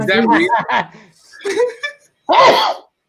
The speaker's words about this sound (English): He just gave you COVID. He just sneezed on you.